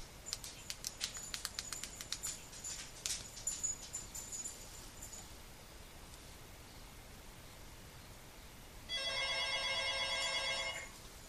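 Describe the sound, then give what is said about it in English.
A phone rings with one steady electronic ring burst lasting about two seconds near the end, from an incoming call placed from a cell phone, preceded by a quick series of soft clicks and taps. No one speaks. “Now I'm going to use my cell phone to call myself and you will see how this works.”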